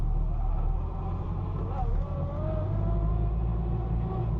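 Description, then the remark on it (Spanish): An old, cheap car's engine is cranked with the starter and starts, rumbling loudly and steadily, its pitch shifting briefly midway as if revving, with a muffled voice faintly underneath. “A por todas, joder, esto era el starter.”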